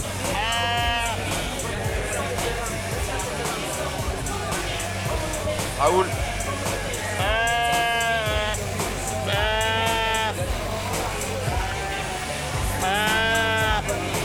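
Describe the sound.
Ewes bleat loudly several times while being sheared at a sheep-shearing competition, long wavering cries coming every couple of seconds, over a steady background of a man talking through a loudspeaker and a murmuring crowd.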